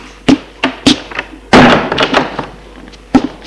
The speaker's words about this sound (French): Ouvrir la porte qui se trouve à droite de sa chambre. Entrer. Fermer la porte.